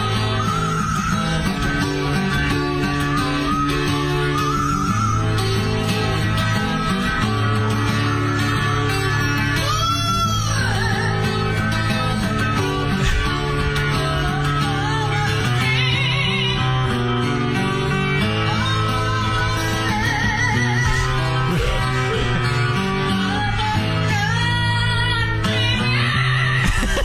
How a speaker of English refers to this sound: And his parrot starts singing along. Doesn't start singing the words, but kind of sings its own thing. Just listen in the background. Remember, this is a parrot singing and whistling.